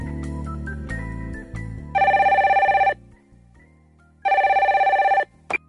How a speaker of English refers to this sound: Oh, that's my phone.